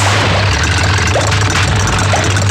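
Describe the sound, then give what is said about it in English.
A Super Hornet jet fighter from the Navy's new fleet, being demonstrated, roars steadily and loudly, a dense wash of engine noise over a deep droning hum that holds constant throughout, with no voices. “Brendan Nelson demonstrates the Navy's new fleet of Super Hornet jet fighters.”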